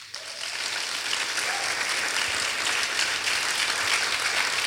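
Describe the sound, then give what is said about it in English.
A crowd claps steadily for the young women who teach and mentor in Cornell's Girls Who Code club, a dense wash of many hands beating at once, holding an even loudness throughout with no voices on top. “And please, can we give them a round of applause?”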